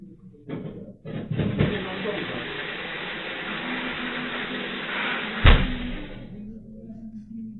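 A steady aerosol spray hisses for several seconds, then a sudden whooshing burst flares up as it ignites, before the hiss fades away.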